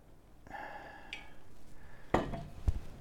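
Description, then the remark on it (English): Water is poured into a cup to make tea in a steady, ringing trickle for about a second and a half, followed by two sharp clinks of dishware. No one speaks. “We're just gonna add this water.”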